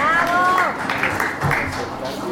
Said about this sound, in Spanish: para quien pedimos un fuerte aplauso.